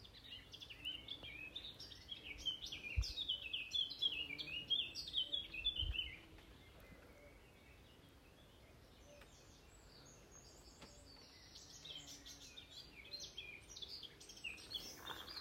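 Small birds chirp and twitter busily by a bird table in the west of Ireland for several seconds, their bright, rapid calls overlapping, then fade to quieter, scattered tweets against a soft outdoor background.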